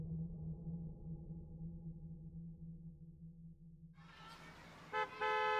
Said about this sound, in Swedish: Mamma tutar på parkeringen och jag springer fram och sätter mig i framsätet.